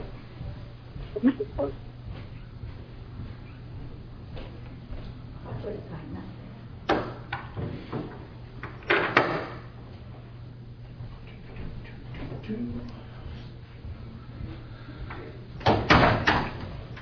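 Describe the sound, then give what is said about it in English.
A door is handled and pulled shut during a public hearing meeting to keep out noise from outside. A few sharp clunks and a final thud sound against a steady low hum and faint muffled background noise. “I just want to close the door because we're getting a lot of noise outside.”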